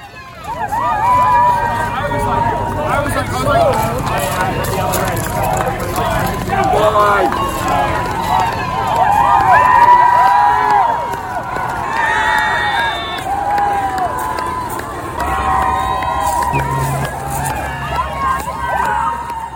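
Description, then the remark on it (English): A jubilant crowd at Cambridge University Boat Club cheers and shouts as it welcomes its victorious rowers back onto dry land, many excited voices overlapping in a dense, loud din that holds steady for about twenty seconds with occasional higher whoops rising above it. “But before we delve into the details of the races, let's have a listen to the jubilant scenes as Cambridge University Boat Club welcomed their victorious rowers back onto dry land.”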